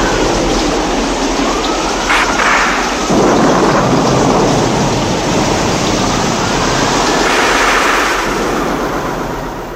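Heavy rain pours steadily in a thunderstorm, with deep rumbling thunder rolling in the background and swelling in the middle. The downpour is loud and continuous, with no voices.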